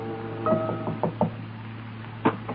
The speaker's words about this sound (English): He hesitates for a moment. Behind that door is a young wife, now a widow. He knocks quietly and the door is opened.